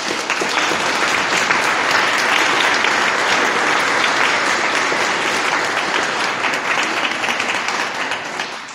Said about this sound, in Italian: Allora è un giorno di festa. Ci regaliamo un applauso? Sì.